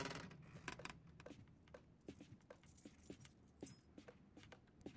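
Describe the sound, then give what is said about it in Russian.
Someone tries to open a locked adjoining door secured with a bolt: a run of irregular metallic clicks, rattles and jangles, like a handle and latch being worked repeatedly, over a low steady rumble, with no voices. “Пытается открыть смежную дверь?”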